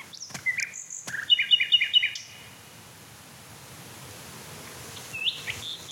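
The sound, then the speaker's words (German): A male songbird sings a bright phrase of high whistles, then a quick run of about five repeated chirping notes, followed by a quiet pause and one short final call. “Mich würde echt interessieren, ob er andere Männchen noch singen hört, die ich gerade nicht höre.”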